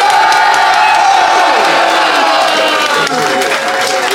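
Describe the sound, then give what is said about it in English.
A loud audience claps and cheers continuously to vote for the side it thinks won a debate, dense applause with whoops and shouts mixed in, sustained throughout without any pause. “But if you think Lou and Fanshawe, and of course James, came out on top, applaud now.”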